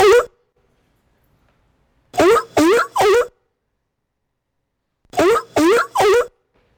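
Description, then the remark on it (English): A seal barking sound effect played by a sprite in a block-based program: short, harsh, honking calls, a single bark, then two quick bursts of three barks each, separated by silent pauses. “how do I stop this seal from barking?”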